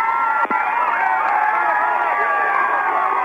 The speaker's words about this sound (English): Well, this is really something. This is going to be amazing before it's over with. The fans are just shouting and cheering and loving every minute of it.